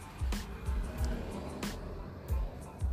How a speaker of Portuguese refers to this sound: Por exemplo, você está ouvindo o barulho do som desse carro? Ai, tá vendo?